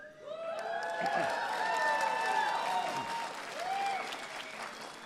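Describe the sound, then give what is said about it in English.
A crowd applauds a retiring teacher, clapping steadily for several seconds, a dense wash of applause with some cheering voices and whistles rising and falling, loud throughout before easing slightly. “You're applauding because you know what I know.”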